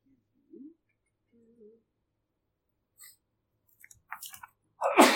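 A sharp sneeze bursts out near the end, fairly loud, after a few quiet scattered murmurs and small noises in otherwise hushed surroundings.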